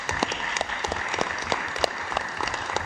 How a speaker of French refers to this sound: Je crois qu'on peut singulièrement les applaudir tous les deux, ils ont fait du bon travail.